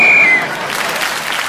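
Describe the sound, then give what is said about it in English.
A short, sharp whistle blast cuts through at the start while a panel game audience breaks into steady, lively applause for a contestant speaking as the whistle went, carrying on after the whistle stops. “But they did applaud you for speaking as the whistle went.”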